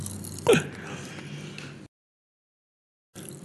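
A sharp crunch, as if biting into a crisp snack, followed by a second of muffled chewing noise before the sound cuts out to silence.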